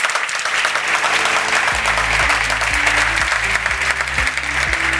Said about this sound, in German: Zum Start können wir vielleicht alle gemeinsam mal den Gast begrüßen mit einem kleinen Applaus. Das würde mich sehr freuen.